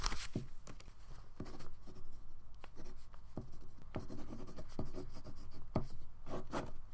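pen writing on paper

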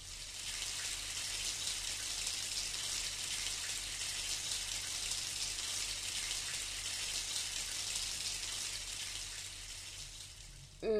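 running shower water

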